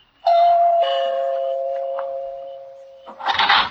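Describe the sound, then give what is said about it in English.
A doorbell is pressed at a house door at night, a loud two-tone ding-dong whose second note rings on for a few seconds, followed by a brief scuffling noise. “Back to the night I walked in the shadows of a flagstone path and stopped a moment to look at the name on the door before I pressed the bell.”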